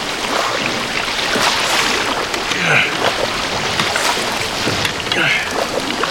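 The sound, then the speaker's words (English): Oars dip and pull through water in a slow, steady rhythm, each stroke bringing a soft splash and swirl over a constant wash of moving water and faint wind. “Valentine relaxed into his breathing and rowing.”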